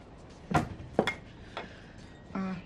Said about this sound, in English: sets a frying pan on the burner.